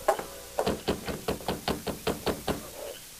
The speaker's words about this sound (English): They approached the Dawson Ranch and saw lights in every window of the low building. They reined up, dismounted, and rapped on the door.